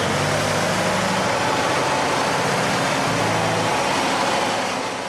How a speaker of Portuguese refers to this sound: É assim a mina de Moatize, operada pela empresa de mineração brasileira Vale, na província moçambicana de Tete. As escavadoras gigantes trabalham dia e noite, os caminhões, também eles gigantes, podem transportar até 400 toneladas de minério.